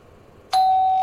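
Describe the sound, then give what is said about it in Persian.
A doorbell rings at a home with a bright, sustained electronic tone starting abruptly midway, holding steady, then a second chime strikes near the end. Quiet low hum before it, after an electric kettle is switched on; no talking. “خورشید کیف دستیشو روی اوپن میذاره، کتری برقی روشن میکنه، با شنیدن صدای زنگ نگران میشه.”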